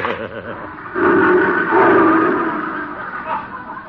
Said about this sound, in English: What was that? Oh, that's Leo, my big lion. Oh, I hope Leo likes me.